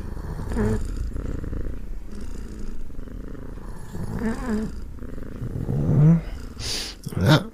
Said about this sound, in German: kurz darauf begannen die beiden langsam synchron zu atmen. Immer ruhiger und gleichmäßiger